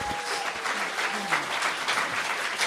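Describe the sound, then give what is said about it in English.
A crowd applauds steadily to welcome a guest speaker, a dense, even wash of many hands clapping at a consistent level throughout, with no voices standing out above it. “Would you give him a mighty round of applause today?”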